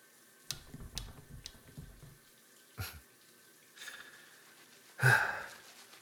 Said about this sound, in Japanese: よーし、ほら、泡立て完成。真っ白でモコモコ、結構うまいもんだろ。ん？どうしてソープを手で泡立てているのかって？